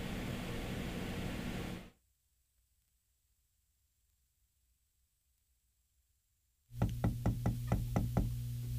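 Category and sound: household object, knock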